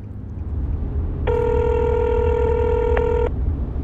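A single steady ringback tone from an outgoing phone call, returning a missed call on the drive back to Marlton, sounds for about two seconds over a low, constant background rumble, then cuts off.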